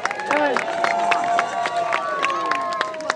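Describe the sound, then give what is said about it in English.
A crowd cheers and whoops over scattered clapping for a group of people from the Waterloo Job Shop, with several high voices rising and sliding above a steady wash of noise for a few seconds. “So let's give them a big cheer.”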